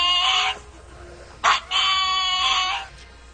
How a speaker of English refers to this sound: That was the pug. That screams Batman. The pug that barks, and it sounds, if you're not listening very carefully, it sounds like he's saying Batman. It's pretty impressive.